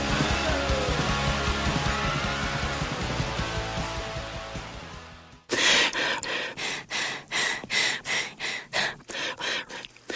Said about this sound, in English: Here's 1 hour of breathing on National Public Radio.